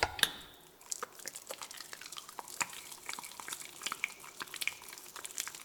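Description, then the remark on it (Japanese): Carbonated water used for washing fizzes steadily, a dense crackle of tiny bright pops and bursting bubbles with a few sharper clicks, soft overall and with no voices. “シュワシュワで君を洗っちゃいます。”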